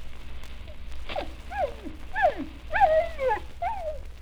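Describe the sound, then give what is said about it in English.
A Pekingese and a Scottish terrier whimper, trading a quick series of high, wavering whines that rise and slide downward, with no talking. “You ever hear dogs talk? Well, now, you listen to Wee Lass Pekingese and Scotty Terrier”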